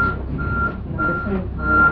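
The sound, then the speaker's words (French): A truck's reversing alarm beeps steadily in a slow, evenly spaced rhythm, several high tones sounding over a low, rumbling engine idle. “Ça c'est un camion. Un camion qui fait marche arrière.”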